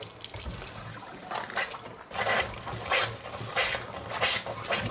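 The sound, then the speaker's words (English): Tap water runs and splashes steadily while a struck standard kitchen match sets off several loud, airy whooshes of methane carried in the water flaring up at intervals, with no one talking. “I can often hold a standard kitchen match to my water, and like I said, it is unpredictable, but the methane randomly travels with the water, and sometimes it will light quite spectacularly.”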